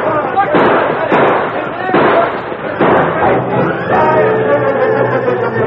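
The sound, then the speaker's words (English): Gunfire in a shootout between a posse firing from a stagecoach and outlaws returning fire: several loud, sharp shots crack out in quick, irregular succession, each ringing briefly, with shouting voices mixed in underneath. “First, they tried to return the fire of the posse.”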